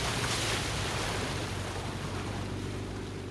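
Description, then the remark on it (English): Amphicars motor across a lake at night, a steady rush of churning water over a low, droning engine hum that holds constant throughout, with no voices. “On Saturday night, the amphicar owners went back out on the lake, headlights playing over the dark water.”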